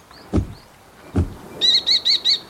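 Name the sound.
falcon calling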